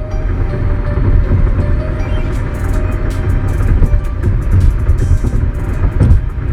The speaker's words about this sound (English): As you can tell, yes, I am back in the car for another mobile episode. This time I'm on my way back from Kansas.